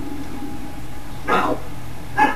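A dog barks twice, two short sharp barks about a second apart, over a low steady background hum, heard live during a radio broadcast.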